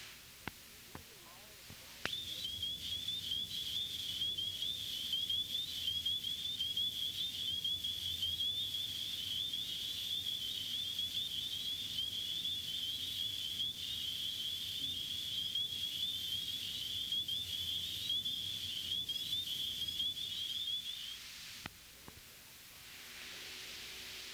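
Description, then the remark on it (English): A dense chorus of high, piping, rising whistles from spring peeper frogs (Hyla crucifer), a winter-breeding species, rings out steadily for about nineteen seconds over a soft background hiss, then breaks off abruptly. “A winter breeder, it typically calls from late November to early March. It is easily recognized by the X on its back. The call is a rising whistle.”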